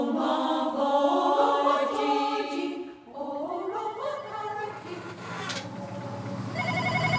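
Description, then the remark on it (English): A telephone rings with a warbling electronic tone at Crumlin Garda (police) station, fairly loud, the rings overlapping and shifting in pitch with no one speaking. “Crumlin Garda Station, busy today with phone calls and queries from the public.”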